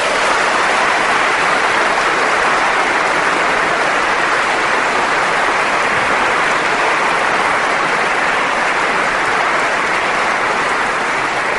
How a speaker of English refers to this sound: I think we owe them a round of applause for that.